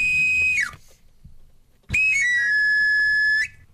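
A knife grinder's whistle sounds two bright, high phrases: a short held note that slides downward, then after a pause a longer one that steps down and holds steady before cutting off.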